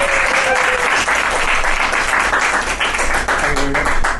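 Steady, dense applause from an audience at a live music gig fills the whole stretch, loud, with many hands clapping at once in a continuous wash and no clear pauses.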